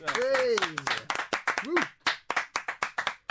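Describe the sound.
A short round of applause during a Stray FM radio show, for a guest from Redline: sharp hand claps, loose at first, then steadier and evenly spaced, with voices whooping and calling out over the opening moments.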